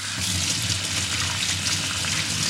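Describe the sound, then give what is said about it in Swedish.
Steady running tap water splashes continuously as hands are rinsed under a faucet while cooking, moderately loud with no voices, keeping an even flow throughout. “I och med att jag använder händerna ganska mycket, så brukar jag alltid, det blir ju det här att man spolar av sina händer.”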